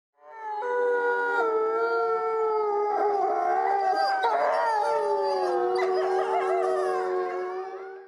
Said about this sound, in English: These are the sounds of wolves and wolf dog hybrids howling. I couldn't resist myself using this soundbite, especially since this is audio from that very first video we produced.